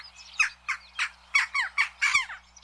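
jackdaw calls

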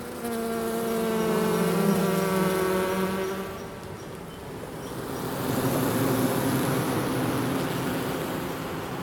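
honeybees buzzing

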